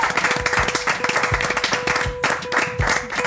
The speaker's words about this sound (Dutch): Applaus. Applaus voor de show.